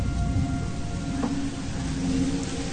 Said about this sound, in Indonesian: Namun, sore itu hujan turun cukup deras.